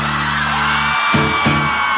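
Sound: women shouting and whooping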